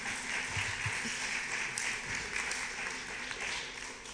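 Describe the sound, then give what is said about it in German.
A church audience applauds an announcement about pastoral care steadily for several seconds, a dense, even wash of many hands clapping with no pauses, holding at a fairly loud level throughout. “Ja, ihr dürft ruhig klatschen, wenn ihr das gut findet.”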